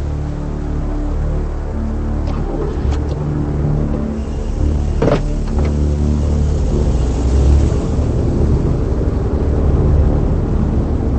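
A car engine hums steadily as the vehicle reverses out of a driveway and pulls away, a low continuous rumble with a few brief mechanical clicks and a slight rise in engine noise toward the end.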